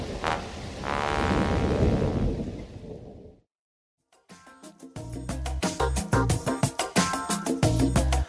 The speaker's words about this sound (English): Oh no, it's raining!